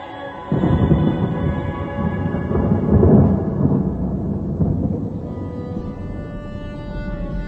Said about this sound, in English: Then there was a peal of thunder.